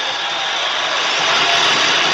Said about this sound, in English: Listen to what the audience does. It's very brief. You'll hear them cheering at first and then you'll hear every voice in that stadium booing loudly.